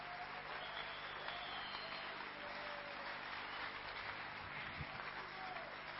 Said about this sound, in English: If you understand anything I've spoken today, can you clap your hand for Jesus?